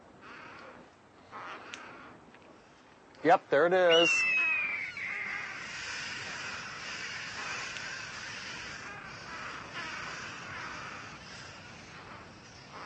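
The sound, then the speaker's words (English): Harsh, raucous parrot alarm squawks, a caw, caw, caw made on seeing a hawk, burst out loudly near the start in a quick cluster, then fade into a steady noisy wash, with a man speaking briefly. “Hear that sound they're making? That caw, caw, caw. That's the sound they make when they see a hawk.”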